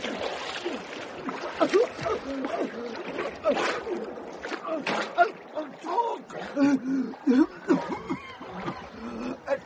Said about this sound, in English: Right, down in the water you go. Talk or drown.